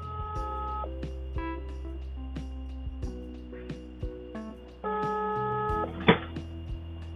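A phone call dialing over a loudspeaker: steady electronic tones shift in pitch step by step, with soft clicks and a brief louder burst near the end, and no one speaking.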